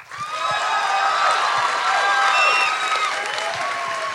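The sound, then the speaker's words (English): An audience cheers and claps together, many voices whooping and shouting over steady applause, voting by applause on whether a man had sex with a woman. The roar holds at a loud, even level for about four seconds. “who here thinks, applaud, and don't applaud for both, who here thinks the man had sex with this woman?”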